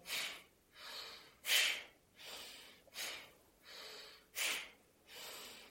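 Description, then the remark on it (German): Forceful alternate-nostril Bhastrika yoga breathing, one nostril closed while breathing out and in through the other: about seven rapid breaths in and out at a steady rhythm, sharp exhales alternating with softer inhales, fairly loud with no talking. “Wechselseitiges Bhastrika ist wie wechselseitiges Kapalabhati.”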